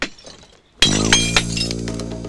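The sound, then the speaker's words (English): A glass panel in a back door is smashed by someone in black gloves and a raincoat breaking in: a sudden loud crash, followed by a bright ringing tinkle of falling shards that lingers for a couple of seconds. “Someone wearing black gloves and a raincoat has smashed the panel of glass in the back door and is reaching in to unlock it.”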